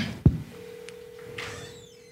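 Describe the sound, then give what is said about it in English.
A click, then a steady low electronic telephone tone hums on for almost two seconds, a call ringing through a phone's speaker inside a theater, with faint room noise around it. “Why isn't it ringing? Did it stop ringing?”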